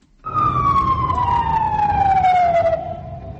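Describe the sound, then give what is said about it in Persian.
A loud siren of ambulances and police vehicles rushing to the site of an explosion opposite the US embassy in Sanaa, Yemen, wails steadily, its tone sliding slowly downward over a few seconds, with the rumble of traffic and engines underneath before the siren cuts off. “شاهدان عینی اطلاع می دهند که ماشین های یاری تجلی و پلیس به مکان ترکیش در روبروی سفارت ایالات متحده آمریکا در پایتخت یمن شهر صنعا می شتافتند.”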